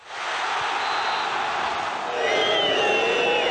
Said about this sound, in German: Vom kollektiven Jubel zum gemeinschaftlichen Pfeifkonzert.